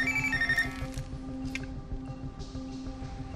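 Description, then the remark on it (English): A phone rings with a bright electronic tone in a film scene as the CIA calls Bourne while watching him from thousands of miles away; the tone is clearest in the opening moment, then fades beneath a steady low hum and busy background noise. No one speaks. “At one point, they reach Bourne on a phone while watching him from thousands of miles away.”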